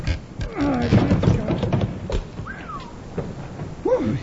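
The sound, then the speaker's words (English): Wood creaks and groans in drawn-out, pitch-bending squeals, mixed with dull knocks and scraping, as a heavy wooden trap door in the loading platform of Ace Batty's store is pried up after dark. “On the suspicion that Ace Batty is hiding Kate's stolen goods in a cellar under his store, Bill and Jingles wait until after dark and go back to pry up the trap door in Ace's loading platform.”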